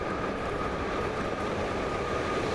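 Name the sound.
subway train passing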